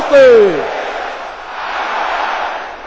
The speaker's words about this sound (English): Let me hear everybody shouting this loud and clear. Aha! In the name of Jesus.